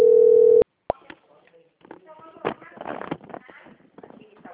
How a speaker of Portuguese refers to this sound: agora tá, o telefone lá tá chamando e ninguém atende.